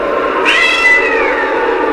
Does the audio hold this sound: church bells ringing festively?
no